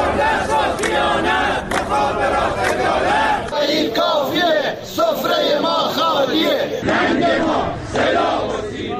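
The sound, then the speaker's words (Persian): A crowd of protesters, retired employees of the telecommunications company at their weekly protest in front of telecommunications offices, chants and shouts together, many voices rising and falling in rough unison at a steady loud level, with scattered individual cries breaking through the collective roar. “گروهی از بازنشستگان شرکت مخابرات در ادامه تجمع‌های هفتگی خود دوشنبه در برابر اداره‌های مخابرات در شهرهای مختلف از جمله اصفهان، تهران، تبریز، رشت، سنندج، اهواز، همدان و شیراز تجمع اعتراضی برگزار کردند.”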